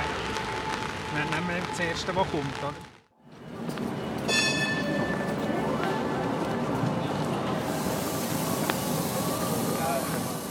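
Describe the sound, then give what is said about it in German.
A line 3 tram rumbles steadily along its rails on a rainy day, loud, with a brief high metallic squeal of wheels early on and a continuous rolling clatter; muffled voices sit faintly beneath. “Herr Schmid, wir fahren jetzt hier im 3-Tram.”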